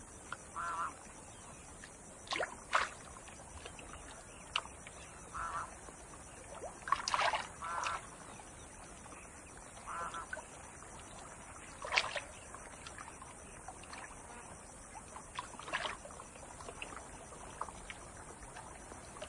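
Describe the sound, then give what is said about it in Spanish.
Water splashing and sloshing in irregular bursts as a tigress and her cubs roll and swim to cool off on a hot day, with brief louder splashes among quieter lapping, and soft outdoor ambience with faint bird calls. No one speaks. “Les encanta revolcarse y nadar.”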